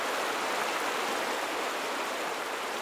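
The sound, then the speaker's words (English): River rapids rush over jagged rocks in a steady, dense roar of churning whitewater, loud and continuous with no pauses, and no voices present. “The jagged rocks churned out whitewater. The current propelled fallen trees downstream. Rapids echoed against the rocks.”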